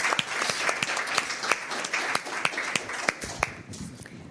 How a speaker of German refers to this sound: Also dafür einen Applaus und für die Moderation und für ganz viel Backup.